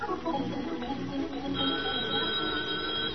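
An old-fashioned telephone bell rings steadily and fairly loud, a sustained metallic jangle that starts partway through after a brief stretch of muffled noise, with no one speaking over it.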